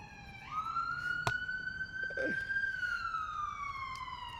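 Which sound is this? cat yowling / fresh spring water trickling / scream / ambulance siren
ambulance siren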